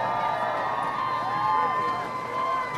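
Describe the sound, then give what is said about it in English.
A crowd cheers and applauds steadily for about three seconds as West Haven High School is awarded its medals at the CIAC football state championship final, with a dense wash of clapping under overlapping shouts and a few high, sustained voices carrying over the top. “Cardinals all applauding for now, West Haven.”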